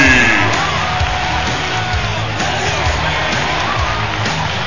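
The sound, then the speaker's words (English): A large wrestling arena crowd roars continuously in support of wrestler Billy Ray as he enters the ring, with overlapping cheers, whoops and yells forming a loud, dense wall of noise that stays steady for several seconds. “Can you hear this crowd?”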